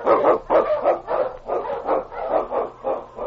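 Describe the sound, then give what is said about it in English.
King, the Wonder Dog, a Husky Eskimo lead dog from The Challenge of the Yukon, barks repeatedly in a steady, rapid rhythm, about nine loud barks in quick succession with no voices. “The Wonder Dog King, swift and strongest of Eskimo lead dogs, blazes the trail through storm and snow for Sergeant Preston”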